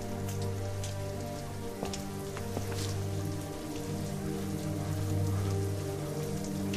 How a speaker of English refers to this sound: Simon's standing outside in the rain.